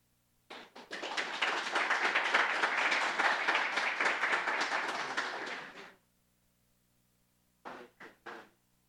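Steady applause from a crowd, many hands clapping continuously for about five seconds before stopping, followed after a pause by a few faint separate claps.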